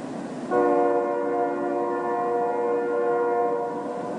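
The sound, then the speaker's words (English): A train horn sounds from a distance, one sustained chord-like blast lasting several seconds over a low rumble of rail noise, with no talking. “If you've ever put your head down on a railway track, you might have heard a distant train.”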